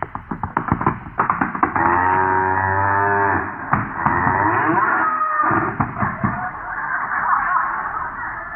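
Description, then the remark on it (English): A loud, drawn-out cow moo sounds, followed by a second wavering bellow, amid scattered thumps and clatter from a scuffle as someone tries to lasso it. “See that camp over there? Watch me go over and lasso, tie, and brand him in 2 seconds.”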